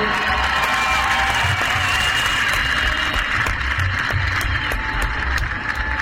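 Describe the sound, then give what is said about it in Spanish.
An audience at a festival applauds steadily, a dense wash of clapping for about six seconds, with scattered cheers and crowd noise mixed in at a loud, even level. “Por favor, un aplauso para ustedes mismos, grande, por favor.”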